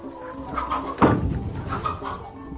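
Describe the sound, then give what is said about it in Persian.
Several chickens cluck in a steady, overlapping chatter, with one louder squawk about a second in, without any speech. “آقای طرقی بود تشریف بردن مسافرت، مرغا گشنه میمونن.”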